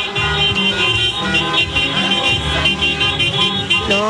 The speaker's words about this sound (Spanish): Y mira, acá, de hecho, aquí pueden escuchar también el sonido ambiente también de los vehículos que están pasando con los bocinazos.